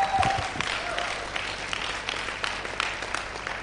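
Steady audience applause, many hands clapping together in a dense, continuous patter that holds at a fairly even level for a few seconds.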